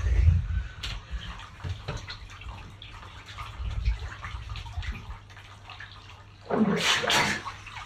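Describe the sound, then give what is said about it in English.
Water sloshes and drips in a bathtub as a man dunks his head under to wash, with low churning movement, then a loud bright splash near the end as he surges back up out of the water. “He dumped his head under for a clean, and as he came back up, I threw it in his face.”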